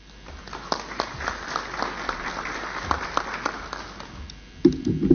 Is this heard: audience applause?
yes